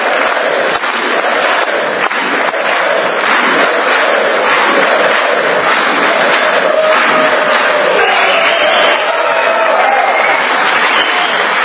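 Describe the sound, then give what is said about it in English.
A large crowd of senators and congressmen chants "USA" over steady loud clapping and cheering, a dense unbroken roar that holds for the full length without a pause. “That's the senators and congressmen yelling USA.”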